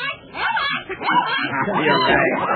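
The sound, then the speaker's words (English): A parrot named Sleepy mimics a dog to tease a dog named Rags, giving a rapid run of yappy barks and whiny yips, fairly loud, continuing for a couple of seconds without pause. “Yeah, I guess he can't figure out how a bird can bark.”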